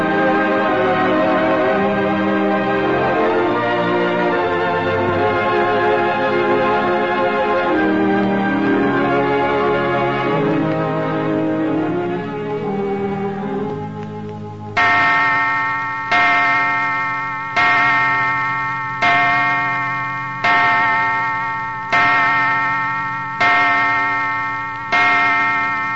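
Orchestral music swells and fades, then a clock in Griffin Mansion on the Los Feliz Hills above Hollywood begins chiming midnight: deep, resonant bell strokes sounding slowly and evenly, each ringing out and decaying before the next, loud.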